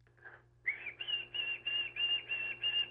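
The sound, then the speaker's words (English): A person whistles an imitation of a white-throated sparrow song: a couple of soft lead-in notes, then a steady run of clear, sustained high whistled notes in an even rhythm, fairly loud, with no talking. “That's going to be the white-throated sparrow. And I want to say you did a good rendition of the white-throated sparrow song.”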